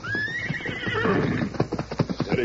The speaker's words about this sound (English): Bolting down the trail like an arrow shot from a bow, the great horse Silver raced in pursuit of the mysterious horseman. His flying hoofs quickly narrowed the gap between the Lone Ranger and his quarry.